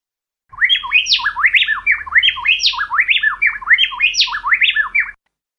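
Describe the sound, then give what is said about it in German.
A male and a female plain-tailed wren sing a rapid, precisely interlocking duet, their loud, clear whistled phrases alternating back and forth in a steady rhythm for several seconds, with no voices. “Also wirklich unglaublich präzise, wie die zwei Vögel sozusagen dieses Duett singen.”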